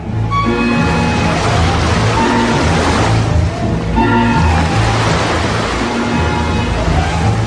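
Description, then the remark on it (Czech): Loud sea waves crash and roar continuously as seawater reaches the walls of Athens, surging in two big swells, with a sustained musical drone playing underneath the churning surf. “Mořská voda už dosáhla k aténským hradbám.”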